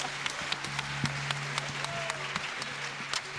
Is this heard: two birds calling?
no